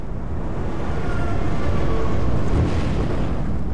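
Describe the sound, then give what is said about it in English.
An approaching tsunami wave on a beach in Thailand makes a massive, continuous roar of rushing water, deep and rumbling like a freight train, swelling slightly in the middle and never letting up, with no voices. “Petra described the sound like a freight train, something that seemed very out of place on the beautiful Thai beach.”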